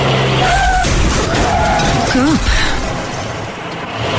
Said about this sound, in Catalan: Cotxe.